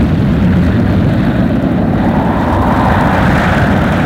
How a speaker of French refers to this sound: Didier s'avance et tout d'un coup, il est aspiré par un grand vent. Et les autres aussi sont attirés par le vent.